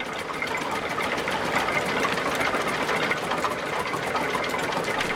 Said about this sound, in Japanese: 大村さんの水車は今日も回り続けます。